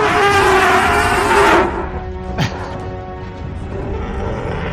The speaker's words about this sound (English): And the sicker the burn, the more ferocious the roar.